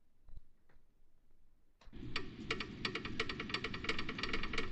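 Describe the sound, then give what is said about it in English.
A few sparse ticks sound alone, then a full, loud music track kicks in with steady, regular ticking clicks running through its beat. “Tick tock, you know. Yeah. Sound of the clock.”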